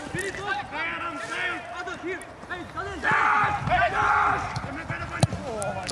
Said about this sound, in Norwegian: Voldsomt skriking og høying her i ballspark. Ja, så hører du det alltid så godt i treningskamper.